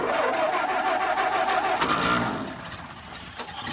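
A truck engine cranks and catches with a loud, rough mechanical roar, a sharp burst around midway, then settles into a quieter, steady idle rumble.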